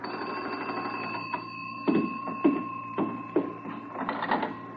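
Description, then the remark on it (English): A telephone rings steadily in police barracks with a bright, sustained bell tone, broken by a few sharp rattling clicks. No one speaks. “2 hours later, I was sitting in the barracks all alone when the phone...”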